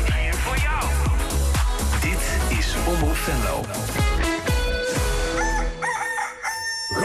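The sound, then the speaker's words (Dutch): A rooster crows loudly and repeatedly, layered over a dense, busy musical backing with voices mixed in, fading slightly near the end. “Stoeme vogel!”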